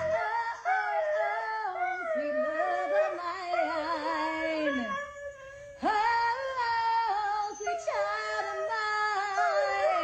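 A dog howls in long, wavering, pitch-sliding wails over steady rock music, its voice rising and falling loudly and close throughout, with a brief dip before the howling swells again.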